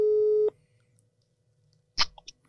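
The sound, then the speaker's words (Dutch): A telephone call tone plays once as a call is placed, a steady mid-pitched beep lasting about half a second, followed by quiet line hiss and then a brief crackling click burst. “We gaan hem even bellen.”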